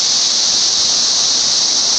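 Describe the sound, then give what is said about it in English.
A loud, steady cicada buzz fills the whole stretch, a piercing high-pitched drone that never lets up, heard alone with no voices. “A cicada makes a loud buzzing sound on sunny summer days.”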